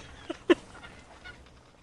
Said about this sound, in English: Look at these poor fucking birds. All covered in some kind of fucking oil, ecological, catastrophic